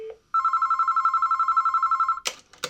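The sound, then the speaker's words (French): A telephone rings once in a rapid warbling trill lasting about two seconds, preceded by a short low tone and followed by clicks and clatter as the line is picked up; a call placed to the law office of Maurice Papon's lawyer in France. “Il faut juste un téléphone.”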